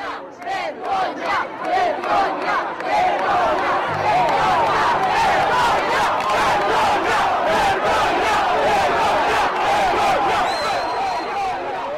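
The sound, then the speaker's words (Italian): A large crowd, along with dozens of journalists, shouts and clamors continuously in front of the courthouse in Piazza Matteotti, many voices overlapping in a loud, dense roar that swells in bursts at first and then holds steady throughout. “Davanti al tribunale, in piazza Matteotti, non ci sono solo decine di giornalisti, ma c'è la folla.”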